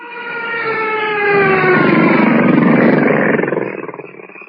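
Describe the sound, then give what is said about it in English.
A loud, droning buzz of mosquitoes on a humid night on the outskirts of a gorilla forest in Africa, with a thick, layered whine that swells over a few seconds, holds steady, then fades out toward the end. No one speaks. “Blast those mosquitoes!”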